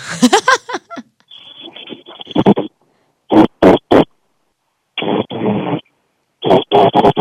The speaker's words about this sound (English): Just hold on, I'll blow the whistle for you. Just a second. I can't wait to be whistled at. This was given by a PT teacher to me.